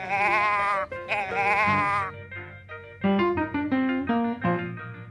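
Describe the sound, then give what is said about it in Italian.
A pocket-sized toy cow noisemaker, about 6 cm tall and 4 cm wide, lets out a wavering, bleating moo that sounds more like a sheep, two long quavering cries followed by a series of shorter, stepped tones, fairly loud with no talking. “Sì, è una mucca che tante volte potrebbe essere una pecora.”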